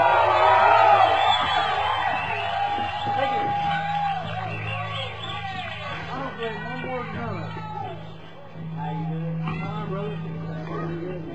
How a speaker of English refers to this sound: Thank you all very much for that wonderful round of applause, because that would have looked real silly if we'd come back out here and done an encore and y'all wouldn't applaud a whole lot.